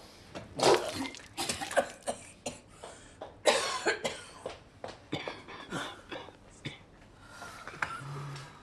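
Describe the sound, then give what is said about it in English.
Harsh, repeated coughing and spitting as a woman spits out blood in her bathroom, a run of ragged bursts over several seconds, with shuffling footsteps and clattering movement around them and a faint low hum near the end. “Golda springs up from her chair, staggers into her bathroom, and spits out blood.”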